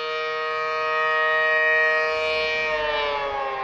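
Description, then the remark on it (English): A loud civil defense–style tsunami warning siren of Crescent City, California, sounding in its monthly test on the first Tuesday at 10 a.m., wails steadily, its sustained harmonic tone holding and then sliding slightly downward, heard alone without any voices. “It's a test of the city's tsunami warning siren.”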